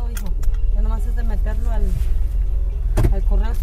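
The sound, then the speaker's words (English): Steady low engine and road rumble fills a car interior during a ride through Boyle Heights while a mother and her son talk, with a brief sharp clunk near the end. “During a car ride through Boyle Heights, his mother tells him all they can do at this point is wait and see if it's God's will to make it happen.”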